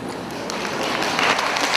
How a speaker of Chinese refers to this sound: 你不要鼓掌，是给你们自己鼓励。